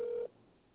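A telephone ring sounds in a single short, steady electronic burst, cut off after a quarter second and followed by faint background hiss.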